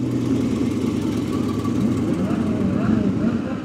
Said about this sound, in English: As a car reporter, I go to a lot of car shows, but none is quite like the Concours d'Elegance here at Pebble Beach. I'm standing right on the cart path at the first hole, watching a parade of Ferraris drive by.